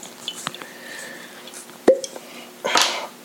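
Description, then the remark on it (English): A small splash of Batch 2 high-rye bourbon poured into a glass: a sharp glassy clink, then a brief, hissing gush of liquid lasting under a second, fairly quiet overall. “Oh, I like that little splash right there.”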